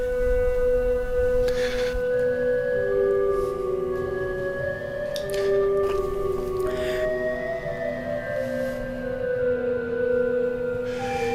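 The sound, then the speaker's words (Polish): A church pipe organ with four manuals and a pedal keyboard, played with both hands and feet, sounds sustained, overlapping notes that swell and glide between pitches, with a steady deep bass beneath and a full, continuous loudness throughout, no voices. “Jak dzisiaj nawet patrzymy na organistę, jak on gra tutaj dwoma rękami, ma cztery manuały, do tego te wszystkie hebelki, których jest więcej niż w samolocie i do tego jeszcze biega po klawiaturze nożnej, to jest naprawdę cyrk.”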